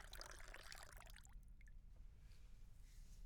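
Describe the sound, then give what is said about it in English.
Water pours steadily into a tall glass of ice water for about a second and a half, bright and splashy, then tapers off into quiet hum with a faint clink. “Why don't you have a nice, tall glass of ice water to start, okay?”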